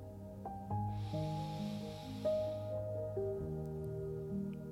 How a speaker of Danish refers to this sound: Og så lad os tag 3 vejrtrækninger, hvor vi giver slip. Første vejrtrækning.